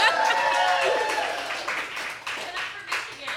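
A crowd at a live show in Michigan claps and applauds steadily, a dense patter of many hands with a few cheers and whoops rising over it, loud at first and tapering slightly toward the end.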